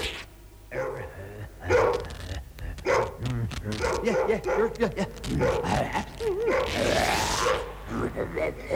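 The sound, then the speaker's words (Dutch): A dog barks and yips repeatedly in short, excited bursts, while a person talks over it in the background. “Haal die hond zo bij je.”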